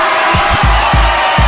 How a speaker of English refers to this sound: Ladies be sweating. Let me hear the ladies scream.